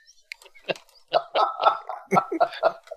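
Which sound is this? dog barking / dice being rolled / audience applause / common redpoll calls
dog barking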